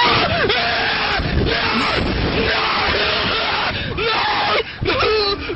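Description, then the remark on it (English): A man screams and wails almost nonstop on an amusement slingshot ride, his voice swooping up and down in pitch over a steady roar of rushing wind, with brief breaks between cries. “But he turns into a whimpering, crying girl.”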